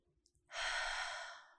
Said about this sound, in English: Breathing in through the nose, out through the mouth.